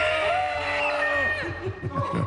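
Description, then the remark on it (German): A family from Remscheid shouts together at full volume to drive off ghosts and witches at Schloss Burg, a long sustained yell that breaks into shorter, ragged cries and whoops toward the end. “Genau, man schreit sie am besten lauthals an.”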